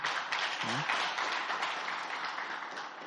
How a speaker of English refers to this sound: Let's give a big hand clap.